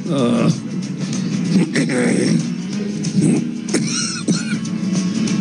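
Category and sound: human body sound, cough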